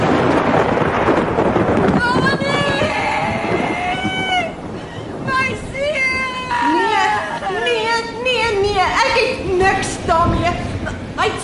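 A steady roar of heavy rain with deep thunder rumbling through a thunderstorm, loud, while a cat yowls and meows repeatedly over the storm.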